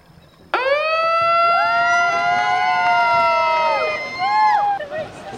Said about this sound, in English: At the sound of his siren, Conservation Coordinator for Coastal Fisheries, Bob Spain, set loose the National Championships for Aluminum Canoes and marked the opening of the new Inland Wilbarger Paddling Trail.